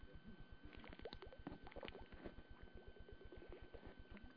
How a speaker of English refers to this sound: So it was a gulp.